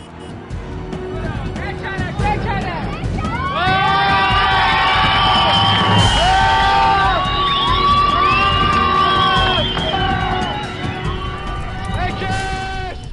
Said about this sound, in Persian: من شعارهایی رو میشنوم و صحنه‌هایی رو میبینم